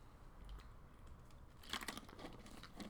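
Faint sipping from a water bottle: a soft crinkle of plastic and a few small wet swallowing sounds in the second half, after a near-silent start. Nobody speaks.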